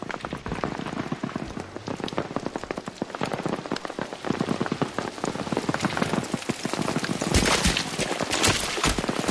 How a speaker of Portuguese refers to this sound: É, começa as gotinhas nas folhas e o barulho. Daqui a pouco um barulho mais grave. E aí vai crescendo, aí o som da chuva vai se misturando com o som das balas.